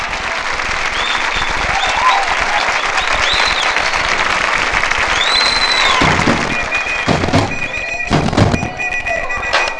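A club audience applauds loudly and steadily, a dense wash of clapping with scattered whistles and shouts rising over it before the clapping thins out toward the end.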